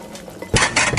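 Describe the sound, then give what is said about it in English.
Dishes and cutlery clatter in two bright, jangling bursts after a brief quiet moment as someone washes dishes, like plates and silverware being handled in a sink. “And then I'll see you next time, when I hopefully won't still be washing dishes for mole people.”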